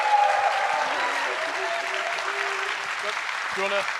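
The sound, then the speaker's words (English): A crowd at a talk applauds steadily for about four seconds as people are called on stage, a dense, even wash of clapping at a fairly loud level, with a few scattered voices and cheers rising above it. “But guys, come on stage. Round of applause.”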